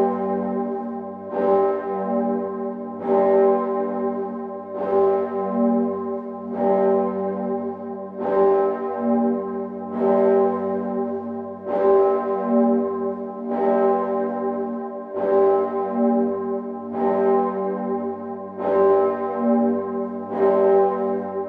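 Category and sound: signal or alarm, church bells ringing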